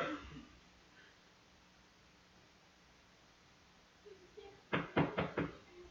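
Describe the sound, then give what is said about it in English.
A quiet, hushed stretch gives way to a few soft taps, then a burst of four sharp, evenly spaced knocks on a house door, fairly loud, near the end. “Honey, you get the door.”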